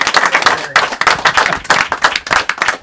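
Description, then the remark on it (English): A capacity crowd breaks into loud, sustained applause for the team that won the UEFA Cup, many hands clapping in a dense, steady patter that keeps its energy throughout the few seconds, with no voices standing out. “And we saw the team that both of you were in that won the UEFA Cup, which deserves a round of applause, Capacity Crowd.”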